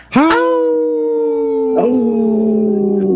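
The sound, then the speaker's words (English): Radio show hosts and a guest on Native Roots Radio Presents howl like wolves: a long, loud, steady howl begins right away and a second voice joins partway through, the two holding together until the end. “It's great when the guests join in and howl with us right away.”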